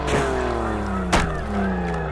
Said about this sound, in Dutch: Maar vlak voor de finish klappen zijn achterbanden.